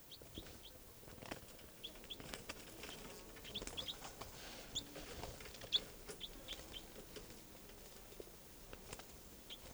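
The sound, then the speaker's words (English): Short, high-pitched bird calls chirp repeatedly at an uneven pace, fairly faint over a steady bed of soft rustling and pattering noise, with no one speaking. “Bird.”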